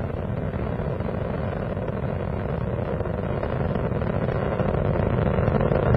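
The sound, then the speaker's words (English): A steady, powerful rocket engine roar from the space shuttle Atlantis's engines during ascent from Kennedy Space Center, throttling down near maximum dynamic pressure at about 5 miles altitude, deep and rumbling with constant intensity, loud with no voices over it. “Engines throttling down as Atlantis prepares to maneuver through the area of maximum dynamic pressure on the vehicle in the lower atmosphere.”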